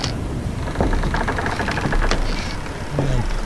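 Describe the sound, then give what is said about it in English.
Pirate ship ambiance with a steady low rumble of wind and water, scattered wooden creaks and knocks, and a drawn-out groaning creak near the end, with no voices. “Want to hear some pirate ambiance?”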